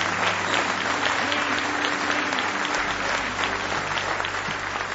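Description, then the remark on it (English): A large church audience claps steadily and enthusiastically in praise of God, a dense, continuous wash of applause for several seconds with a faint low hum underneath. “I want you to give Him one more hand clap of praise if you love Him.”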